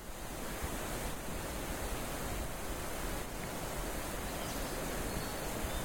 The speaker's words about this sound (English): Here I am on the bridge over the Rouge River near Huberto, Quebec in July of 2020.